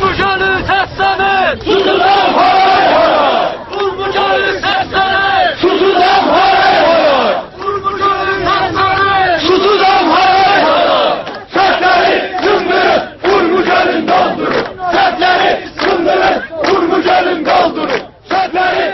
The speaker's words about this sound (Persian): تجمع کنندگان در این شعارها می گفتند ارومیه از تشنگی می سوزد و یا سدها را بشکنید تا آب رودها به سوی دریاچه ارومیه جاری شود.